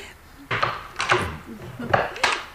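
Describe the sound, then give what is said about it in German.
A door chain is unfastened in a few bright metallic clinks and rattles, coming in two pairs of short bursts over a low background hum. “Einen Moment, ich löse die Kette.”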